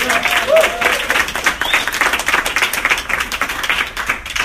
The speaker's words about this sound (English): So big round of applause for Katie.